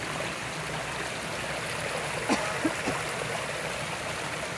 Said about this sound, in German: Hörst du den Fluss? Hörst du das Plätschern?